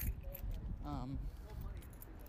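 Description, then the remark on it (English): Keys jangle in a few scattered, bright metallic clinks over a steady background hiss, with a brief voiced hum from someone partway through. “I do have my keys, don't worry.”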